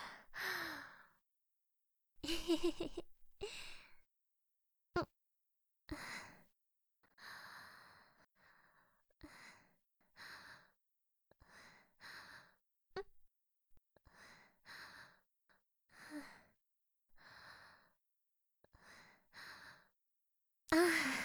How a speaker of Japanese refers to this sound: え？息？荒くないよ。あくびかな。眠いのかも。